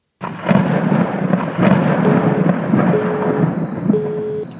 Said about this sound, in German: Dann wird gleich in Neuss ein Gewitter aufziehen. Gewitter? Ja, ein Gewitter mit großen Blitzen.